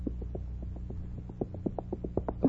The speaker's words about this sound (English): Listen, is that the sound of his horse's feet? Oh, I'm so excited, I can't tell if it's his horse or the mad beating of my own heart. No, it is he. He's coming.